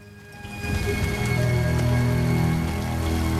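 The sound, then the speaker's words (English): Steady heavy rain from a thunderstorm pours down outside, a dense wash of patter and splashes that swells after the first moment and then holds loud and constant, with faint tonal hum underneath and no voices. “He smiles as the rain hammers down outside”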